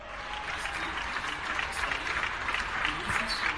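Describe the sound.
Sustained applause from balconies across Spain at 8 in the evening, a daily tribute to healthcare workers during the COVID-19 lockdown in March and April: a dense steady patter of many hands clapping at once, with faint voices and calls mixed into the crackling wash.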